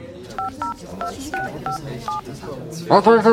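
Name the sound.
telephone keypad dialing tones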